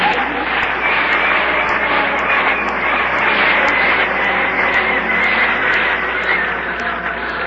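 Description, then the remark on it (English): A loud, steady airplane engine roars on the ground before takeoff, a dense continuous rumble and hiss with a faint rapid ticking over it, holding even throughout with no voices. “The plane's ready to leave.”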